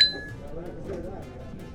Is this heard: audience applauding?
no